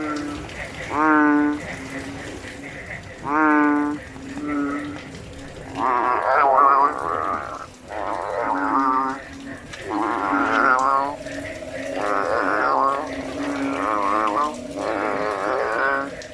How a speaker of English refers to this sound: It's a bellowing frog. But what is... I was right. But what are they doing?